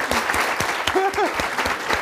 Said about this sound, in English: With that, let's just clap him for being brilliant.